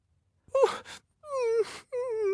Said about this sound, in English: The dog whimpered pitifully.